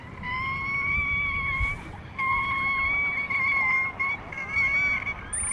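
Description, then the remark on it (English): Killer whale calls: long, steady, nasal tones with bright overtones, sounding twice with a short break, over a constant low underwater rumble. “Killer whales use echolocation for navigating, communicating, and finding food.”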